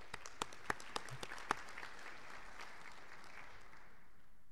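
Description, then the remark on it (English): A short round of applause from a crowd at an awards presentation, with sharp claps standing out at the start, then quickly thinning and fading out within a few seconds. “Unfortunately, none are here today, but they too deserve a round of applause.”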